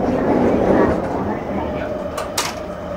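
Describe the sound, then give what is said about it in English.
Steady low rumble inside a moving, crowded commuter train carrying several hundred people, approaching Harajuku station, with a constant mechanical hum, a few brief hissing bursts near the end, and a murmur of voices in the background. “In fact, this train has about several hundred people on it, I think, looking at me.”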